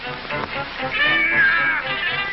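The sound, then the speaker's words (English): A man's vocal jungle yell, the first Tarzan scream, made for the 1929 series Tarzan the Tiger: a single loud, sustained high-pitched cry that wavers and swells in the middle before trailing off, with a thin, muffled, old-recording tone and no talking. “… creates the first Tarzan scream in the 1929 series Tarzan the Tiger.”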